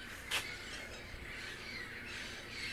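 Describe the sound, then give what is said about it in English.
A sharp parrot squawk stands out early, with a flock of about 20 parrots chattering and calling steadily in their morning song in the background, fairly faint overall and with no talking. “There's probably 20 parrots over there singing their morning song.”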